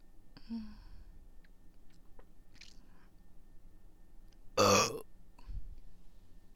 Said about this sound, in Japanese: それをやってからめっちゃゲップ出るようになって。そうなんだよ、ザーメン飲むだけでゲップが出ちゃうんだよ。